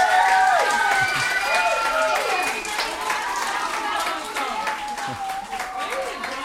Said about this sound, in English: We're interrupted by a surprise. It's not just the applause, but it's the fact that two classrooms of first graders, more than 40 kids, had been sitting so quietly watching their classmates perform.